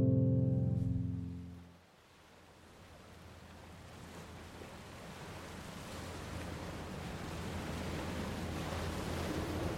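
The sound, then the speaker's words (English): Gentle ocean waves wash onto the shore at Coney Island a few feet away in a steady, rushing hiss that slowly swells louder, following a brief musical tone fading out at the start. No voices. “Three months later, soft waves crashed only a few feet ahead of me as I puffed the poison into my lungs.”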